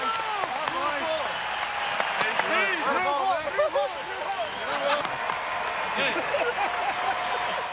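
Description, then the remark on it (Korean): A stadium crowd of over 41,000 gives a standing ovation after Pujols's historic hit during a game against the Mariners, with play halted and teammates on the field, in a dense, continuous wash of clapping and cheering, while a voice talks over it the whole time. “4만 1000명이 넘는 관중 대부분이 경기 내내 상대팀 메리너스를 응원하고 있었지만 이 순간만큼은 상당수가 기립박수로 축하에 동참했고요.”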